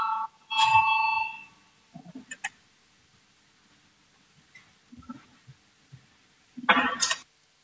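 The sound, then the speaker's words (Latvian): A bright electronic parliament voting bell chimes once at the start, called before a vote on an amendment, ringing briefly before fading, followed by scattered soft thumps and rustle, then a short harsh burst of noise near the end. “Lūdzu zvanu, balsosim par 149 deputāta Valēņa priekšlikumu.”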